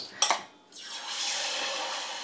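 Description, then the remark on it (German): Pickles hitting hot frying oil: a couple of sharp clatters, then a sudden, steady bright hiss and crackle that swells slightly and holds, with no talking. “Das Geräusch, das lieben wir doch. Du, es zischt, es brutzelt.”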